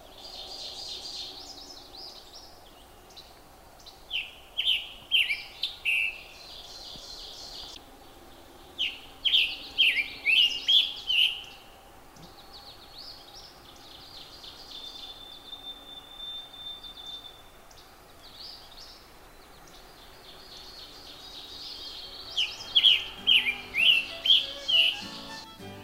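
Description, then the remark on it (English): A scarlet tanager sings hoarse, burry phrases in three bursts of quick notes separated by pauses, clear over a soft background hum, with faint other bird calls in between. “Scarlet tanager.”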